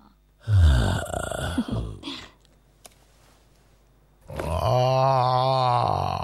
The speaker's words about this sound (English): Pearl appears from behind a rock and steps up to the growling lion. A squirrel cowers under a rock, watching, as Pearl gently strokes the lion's nose.